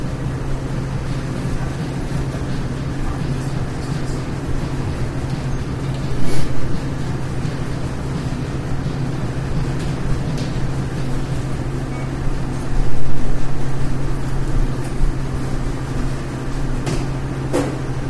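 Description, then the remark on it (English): A coffee grinder runs steadily for the whole stretch, grinding Guatemalan coffee beans: a loud, continuous motorized whirring with a low droning hum and a couple of brief surges in intensity. “Would you like it ground? Yes, please.”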